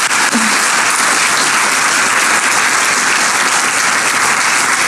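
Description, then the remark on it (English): A large audience applauds General Dunwoody, the nation's first female four-star general, a dense wash of clapping hands that stays loud and even for the full five seconds with no voices rising above it. “I want to thank General Dunwoody, the nation's first female four-star general, which deserves its own round of applause.”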